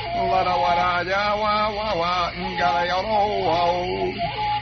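A flute of the kind played by Borneo headhunters plays a continuous, wavering melody for nearly five seconds. Its reedy tones slide up and down in pitch at a steady, fairly loud level, with no voices.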